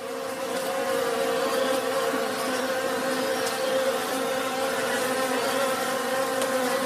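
A wasp buzzes steadily for about seven seconds, a continuous mid-pitched drone with a rich harmonic hum that holds an even loudness throughout, with no voices.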